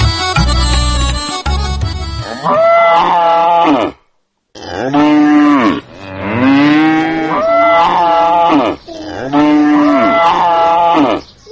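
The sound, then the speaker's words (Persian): Cattle moo loudly, several long drawn-out calls following one another with brief pauses, after a short burst of other noise at the start; no one speaks. The cattle are kept by women cattle farmers in Logar province, in the village of Qala Sheikhak. “چند روز پیش راهی ولایت لوگر شدم و خواستم گزارشی از کار و فعالیت زنان آن ولایت در بخش گاوداری و فروش محصولات گاوهایشان تهیه کنم.”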